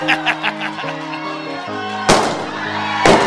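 balloon bursting

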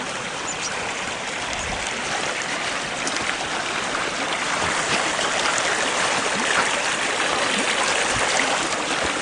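creek water flowing

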